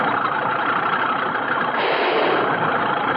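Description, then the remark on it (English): A Caterpillar bulldozer engine runs steadily, a loud, unbroken mechanical roar with a coarse, gritty texture and no pauses or changes in pace, as the bulldozer is moved forward to clear land. No voices over it. “Move the cat forward”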